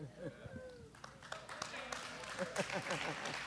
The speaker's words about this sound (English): Give the ladies a big clap, will you? Oh, Lord. Come on. The women really kept the faith.